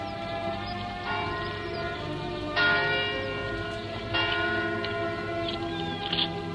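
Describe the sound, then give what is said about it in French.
Angelus church bells ring steadily from a distance in Rouen, carried on the breeze, several overlapping peals with fresh strikes every second or so, their long ringing tones layered into a continuous shimmering wash with no voices. “L'Angélus qui sonne à Rouen. La ville aux toits bleus, là-bas pleine de cloches dont la brise m'apporte la voix.”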